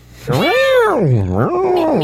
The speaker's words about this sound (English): That's what my cat sounds like. Like a cat in heat. Apparently your cat's always in heat.